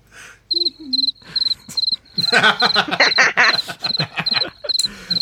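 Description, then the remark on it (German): A cricket chirps steadily in rapid, high-pitched pulses, nearly nonstop from start to finish. Louder rustling, clattering noise briefly joins in midway through. “Oh, das hört gar nicht mehr auf. Ihr werdet sehen. Das ist aber eine lange Grille.”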